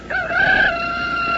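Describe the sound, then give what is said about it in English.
A rooster crows once in a loud, sustained, strained call with a bright pitch that holds steady and then trails off. No one speaks over it. “Well, lots of country folks still depend on this alarm clock to get them to rise and shine.”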